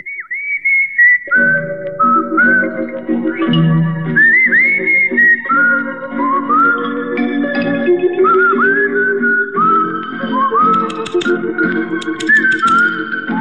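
A bright whistled melody carries a film theme over a full instrumental backing, the high tune gliding and sliding between sustained notes at a steady, moderate tempo with no voices.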